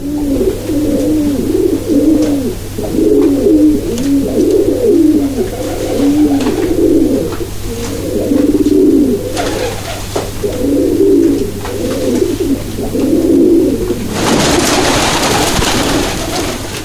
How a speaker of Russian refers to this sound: Это воркуют алтайские шалевые – уникальная местная порода декоративных голубей, выведенная в Барнауле в 1920-х годах.